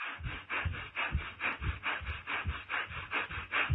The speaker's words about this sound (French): un inspire-expire avec le nez uniquement et très rapidement